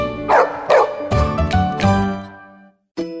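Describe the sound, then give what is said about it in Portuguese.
A large dog barks loudly, five or six deep, resonant woofs in quick succession, then a brief silence before one more bark. “Ideal para aquele cão porte grande, cheio de energia.”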